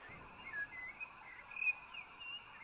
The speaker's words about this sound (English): Birdsong.